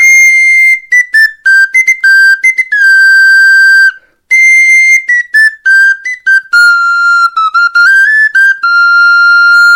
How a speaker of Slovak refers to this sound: Takto sa nám privravel cez handrárskú píšťalku ľudový umelec a ich výrobca